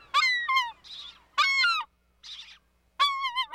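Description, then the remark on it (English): Loud, harsh American herring gull calls in three bursts, each a string of rapid, strident yelping notes, separated by short breathy, hissing squawks, with no talking. “Just as raucous and hefty as its cousins, you can find American herring gulls from Alaska to Puerto Rico, squabbling over table scraps at an inland landfill, or scarfing down French fries by the beach.”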